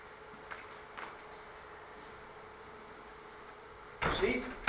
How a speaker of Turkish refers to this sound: Şu kapıyı açayım, kesiyorum.